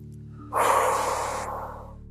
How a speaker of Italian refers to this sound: Nei tuoi chakra, nella tua aura, e con un respiro profondo, molto profondo e forte, permettiamo di memorizzarsi.